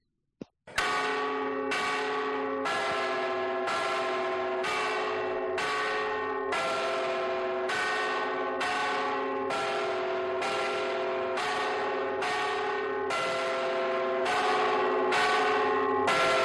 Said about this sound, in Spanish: Pues mira, así a bote pronto nos puede parecer simplemente que suenan unas campanas, pero estamos escuchando el toque llamado del Tente Nublo.